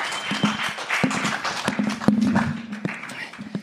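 An audience applauds steadily, a dense wash of clapping with a few sharper claps standing out and a sustained low cheer running underneath. It holds at a fairly loud, even level throughout.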